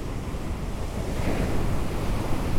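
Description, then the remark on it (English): Heavy ocean surf on a rugged Pacific coastline rolls in with a continuous low roar, waves crashing and churning, with gusts of wind buffeting the microphone and no voices present. “It is a testament to the ferocity of this rugged coastline, the graveyard of the Pacific, that had protected this place where we are from discovery for so long.”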